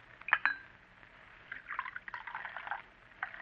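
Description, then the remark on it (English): A couple of light clinks of a cup, then coffee pours from a brass spigot on an urn in a soft, uneven splashing stream for about a second before it stops, followed by a brief trickle. “Just turn that brass spigot on the urn.”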